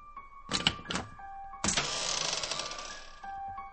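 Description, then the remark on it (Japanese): A wooden door gives two sharp cracking snaps, like wood breaking, then swings open with a long, grinding creak. Fairly loud, with no voices. “木の折れるような音がしたが、あっけなく開いた。”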